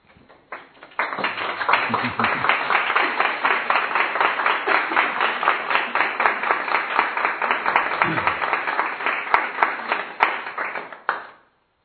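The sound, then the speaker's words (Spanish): An audience breaks into applause, a dense, steady wash of many hands clapping that holds at an even loudness for about ten seconds before stopping abruptly. “Aunque me habréis aplaudido según el modo tradicional, hay otro modo de recoger una propuesta así”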